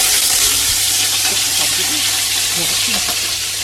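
Duck skin frying over a fire in a pot, its fat melting, a loud, steady crackle and sizzle of hot fat with dense high-pitched spitting that continues without a break, while faint low murmurs sit underneath.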